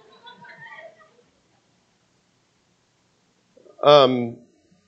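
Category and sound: animal, cat meowing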